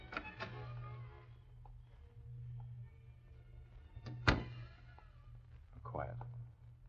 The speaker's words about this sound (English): With a skeleton key, Britt effected an entrance to the back hall.